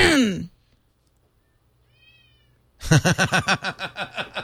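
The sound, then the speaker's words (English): Cat meows played through the speaker of an iPhone app: a short falling meow, a faint brief chirp after a pause, then a loud, rapid run of about eight clipped meows in quick succession. “I don't know if you can hear the meows, but I could provide some meows.”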